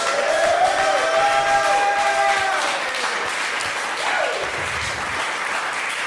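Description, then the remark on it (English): A live evening audience applauds Anna Fabreg and Julio Torres steadily for about six seconds, a dense, loud patter of clapping with sliding whistles and whoops rising over it before it eases slightly. “Could we hear it once again for Anna Fabreg and Julio Torres, please?”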